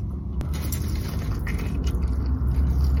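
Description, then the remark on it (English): A steady, loud low-pitched engine rumble from an old bus drones throughout, with mechanical rattling layered on top. “This old bus.”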